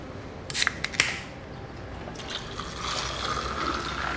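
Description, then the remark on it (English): A couple of sharp metallic clicks and a hiss as a man pops open a can, followed by a steady fizzing pour of liquid into a glass for a Shirley Temple. “He pops open a can.”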